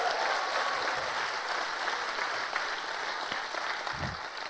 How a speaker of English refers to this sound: So could you stand up with round, and then people can say hi and give it. So can you give these guys a round of applause?